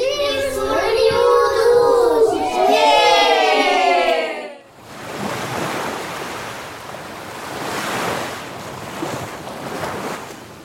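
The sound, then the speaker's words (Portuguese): Ocean waves wash onto the shore in a steady, broad roar that swells and recedes, preceded by a few seconds of bright, warbling tones before the surf takes over. “O livro de hoje, como já estão a perceber, fala-nos do mar.”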